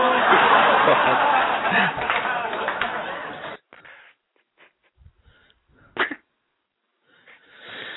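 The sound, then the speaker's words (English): A loud, ragged burst of coughing and wheezing fills the first few seconds, then breaks off into quiet, scattered sputters and one more sharp cough-like burst before trailing into faint noise. “Hit the cough button.”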